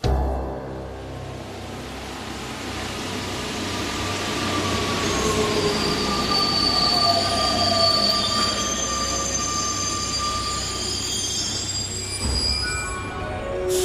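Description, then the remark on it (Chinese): A line 12 metro train rumbles along the rails, its wheels squealing in long high-pitched tones that rise and fade over a steady low roar, with no voices heard. “这在Rue de Chauffran地铁站. 好了, 这是12线。”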